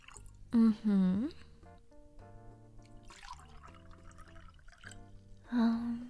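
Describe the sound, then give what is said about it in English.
White wine is poured into glasses in a few short bursts, a gurgling splash whose pitch rises as each glass fills, with a soft voice-like murmur in the background. “Yeah, let me just pour each of us a glass.”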